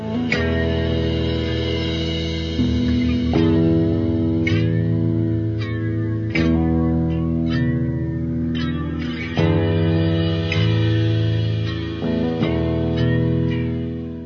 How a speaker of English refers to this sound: I hear the music, so we will take a short break. We'll be back in 3 minutes to continue that story and to continue with our now Tuesday morning edition of Frankly Speaking Radio.